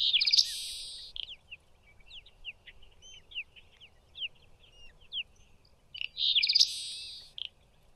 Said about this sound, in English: Also, here is what the Seaside Sparrow does sound like.